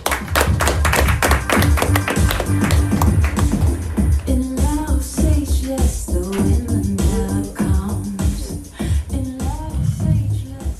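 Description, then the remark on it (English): A loud crowd bursts into rapid, dense applause, then whoops and cheers rise over the clapping as the noise carries on steadily, with a low musical thump underneath. “Make some more noise”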